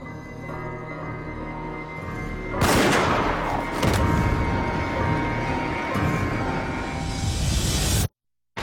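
A sudden loud gunshot-like blast cuts in over a low background, followed by several seconds of dense rumbling noise and a couple more sharp reports, with no voices.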